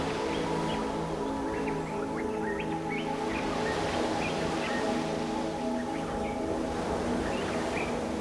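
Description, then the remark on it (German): Scattered, high bird chirps and tweets repeat throughout, soft, from a forest by the sea, over a constant low droning hum with rustling outdoor background. “Und wir können auch die Vögel hören in dem Wald hinter uns.”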